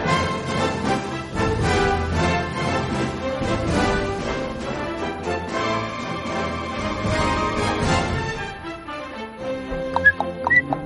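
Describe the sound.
Busy music fills most of the stretch, then near the end a few short, high whistled chirps ring out, a person imitating a goldfinch's trill.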